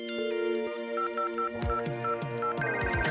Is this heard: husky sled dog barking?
no